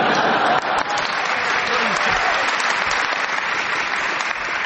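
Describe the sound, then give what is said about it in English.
Sustained applause from a studio audience for Paul Merton's challenge, a dense, steady wash of many hands clapping at a constant loud level throughout, with a few faint voices mixed in. “Paul, because of the audience applause, I will give you a bonus point because I enjoyed the challenge.”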